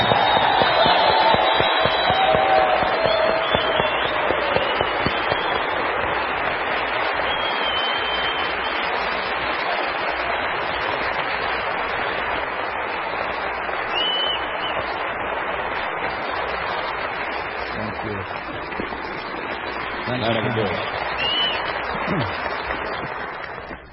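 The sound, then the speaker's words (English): An audience at a service applauds a band with dense, steady clapping that holds at an even, fairly loud level for over twenty seconds, with a few faint whistles and cheers near the start. “Another big round of applause for my great band”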